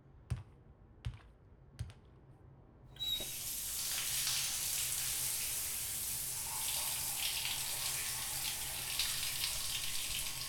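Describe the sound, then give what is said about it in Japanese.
Three sharp clicks or taps sound first, then a shower in a shower room bursts on at about three seconds and keeps running as a steady, full hiss of spraying water, fairly loud, with no voices. “こちらがシャワールームとなっております。どうぞお入りくださいませ。”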